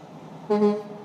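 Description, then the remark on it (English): A big truck gives a single loud horn honk, blaring for about a third of a second over steady road rumble while trying to get over into another lane without signaling, a strong harmonic blast that fades quickly back into traffic noise. “Yeah, just, you're still honking, but you're not... You're trying to get over in this lane because you don't have your fucking signals on, so I don't know what the fuck you're trying to do.”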